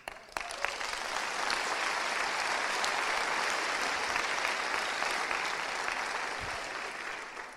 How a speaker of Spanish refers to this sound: Ese aplauso es para ti.